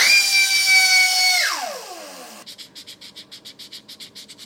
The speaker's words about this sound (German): Damit zwischen alt und neu keine Übergänge zu sehen sind, schleift sie alles glatt.